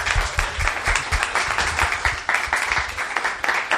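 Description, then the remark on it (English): An audience applauds the guests steadily, many hands clapping in a dense, continuous patter at a fairly loud level, with a faint murmur of voices underneath. “So thank you very much, and a round of applause for these guys.”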